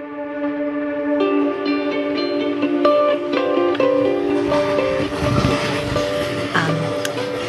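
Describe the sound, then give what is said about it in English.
An Amtrak passenger train travelling from Penn Station to Albany rolls steadily along the rails, its continuous rumble topped by sustained, shifting high-pitched metallic squeals and horn-like tones, fairly loud throughout, with no one speaking. “Now on the Amtrak from Penn Station to Albany, heading into some pretty hardcore unknown.”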